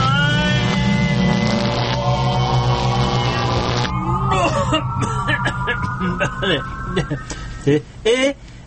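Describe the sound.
A loud, sustained sci-fi time machine effect: layered electronic tones hum and rise in pitch, then warble and swirl, with muffled voices and a few sharp knocks toward the end.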